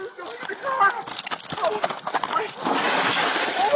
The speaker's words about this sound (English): The sound at the end is the deputy using his baton to smash out the windows.